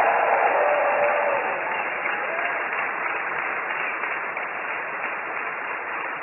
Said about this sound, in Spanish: Y como ya estás libre, dale un aplauso de gratitud al Señor.